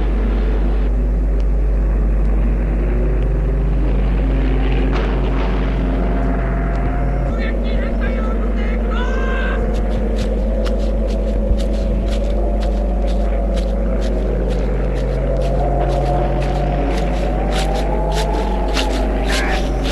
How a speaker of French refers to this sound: Tout à coup, on entend un avion qui passe au-dessus d'eux.